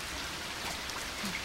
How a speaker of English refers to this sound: What in the world? It's raining.